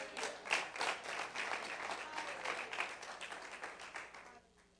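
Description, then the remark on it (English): A church audience claps their hands for Jesus in a sustained burst of applause, a dense patter of many overlapping claps that holds steady and then fades away toward the end. “Let's give Jesus a good hand clap.”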